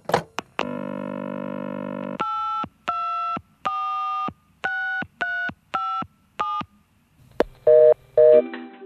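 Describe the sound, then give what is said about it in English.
A phone receiver clicks up to a steady dial tone, then a quick string of about nine keypad beeps dials a chocolate prize hotline number, followed by a warbling double ring tone. No one speaks. “Let's call them.”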